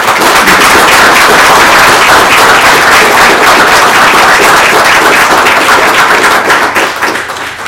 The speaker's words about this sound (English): So before I bring any of the teams up, if we could just give a round of applause to those that work with these kids.